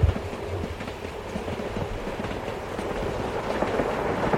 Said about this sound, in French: Il entend le bruit du train qui fait tout vibrer. Ça le réveille complètement.